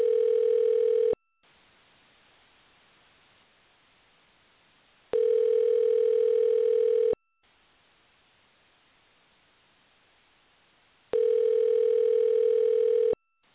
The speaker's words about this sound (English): All right, here we go. We'll hear it ring. We should hear it ring. There we go. Isn't that cool? You call people on the radio, from the radio.